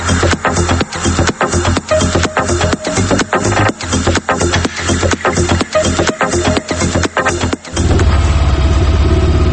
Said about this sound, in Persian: آقای برادر، آقای برادر، لطفاً یه دقیقه موتورت خاموش کن.